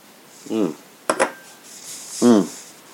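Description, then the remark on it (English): Two quick glass clinks ring out in a toast between short voiced murmurs, followed by a faint airy slurp as someone sips bourbon from a glass and then lets out an appreciative hum. “So, cheers. Go ahead and sip this bad boy.”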